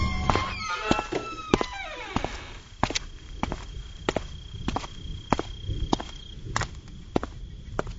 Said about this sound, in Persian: نوجوان من عبدالله آن روز سر در گریبان فرو برد و من جز صدای پای رفتنش هیچ نشنیدم.